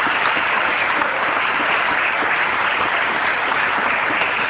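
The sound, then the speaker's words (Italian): Steady crowd applause, a dense patter of many hands clapping at an even, fairly loud level throughout, with no voices breaking through. “Beh, un applauso anche a loro che non hanno parlato.”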